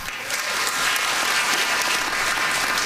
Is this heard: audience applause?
yes